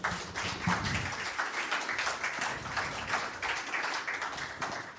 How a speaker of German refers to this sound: Und dazu darf ich mit einem ganz, ganz kräftigen Applaus begrüßen